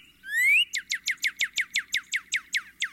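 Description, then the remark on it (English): A northern cardinal whistles clear: one rising slurred note, then a steady run of about a dozen quick, downward-sweeping chirps, with no voices present. “its official name was changed from just cardinal to northern cardinal.”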